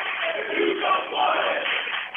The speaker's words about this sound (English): And you can hear the obligatory chant from the Rowdies after the Gillen block.